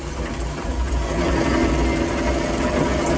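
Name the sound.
car engine accelerating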